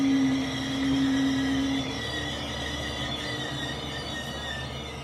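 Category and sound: vehicle, train arriving at station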